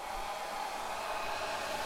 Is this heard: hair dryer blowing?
yes